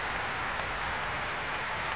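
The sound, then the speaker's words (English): A capacity concert crowd at the Royal Albert Hall stamps its feet on a bank holiday Monday evening, after John Wilson's orchestra performs, in a dense, continuous rumble, blended with a steady hiss of applause-like patter that stays loud and even throughout, with no voices standing out. “You can hear that stamping from this capacity Royal Albert Hall crowd this bank holiday Monday evening.”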